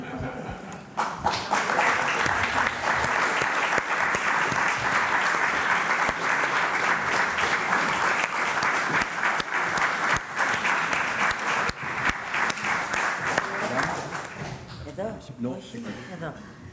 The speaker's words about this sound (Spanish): Así que muchas gracias. Un aplauso también al equipo de Adults in the Room que se van a unir en este momento a la rueda de prensa.